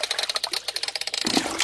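water sloshing

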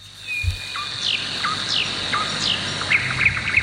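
nightingale singing

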